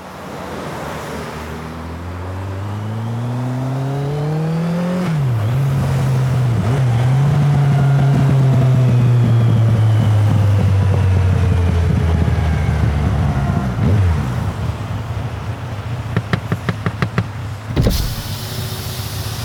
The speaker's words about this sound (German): Früher an diesem Tag auf einem PKW-Rastplatz an der italienischen A5 südöstlich des Mont Blanc-Tunnels.